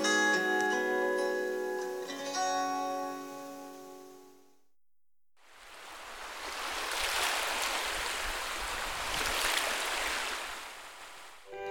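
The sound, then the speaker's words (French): Water laps and splashes steadily for several seconds, a full wash of sound, following a short melodic passage of sustained tones and a brief pause. “Je reste émerveillée du clapotis de l'eau, des oiseaux gazouilleurs, ces bonheurs de la terre.”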